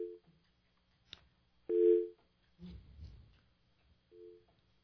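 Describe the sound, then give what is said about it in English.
A telephone on a call-in line rings in short electronic tone bursts, one loud, with fainter bursts at the start and end, a sharp click, and a stretch of rumbling handling noise between them. “All right, the phone's ringing off the call.”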